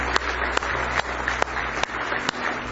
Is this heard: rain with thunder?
no